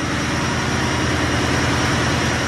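Diesel engines running inside Yakutat's new power plant in Alaska: a loud, unbroken mechanical roar with a deep rumbling low end and dense hiss above, holding steady the whole time with no voices.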